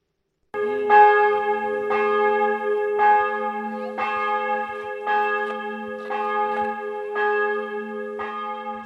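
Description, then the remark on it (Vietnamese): Church bells of a 14th-century church in the town of Schwäbisch Gmünd ring out over snow-covered wooded hills in a steady sequence of strikes about once a second, each leaving a rich, lingering hum that overlaps the next; loud and resonant, with no voices. “Tiếng chuông ngân vang khắp những ngọn đồi rậm rạp, cây cối phủ tuyết từ nhà thờ thế kỷ 14 ở thị trấn Schwabitgmund hùng vĩ.”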